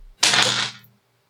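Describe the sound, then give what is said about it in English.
Dice rattle and tumble in a quick burst of clicking for under a second, a bright, clattery sound that stops abruptly, with no voices. “Roll that dice.”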